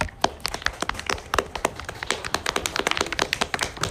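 A small group claps their hands for about four seconds for two presenters at the end of a book discussion, a steady scatter of sharp, overlapping claps at an uneven rhythm, fairly loud and with no talking.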